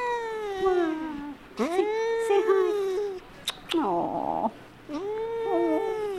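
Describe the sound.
A cat meows repeatedly in long, drawn-out, wavering cries, fairly loud, with a person speaking briefly between the meows.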